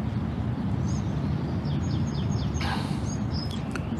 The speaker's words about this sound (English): Hear the birds?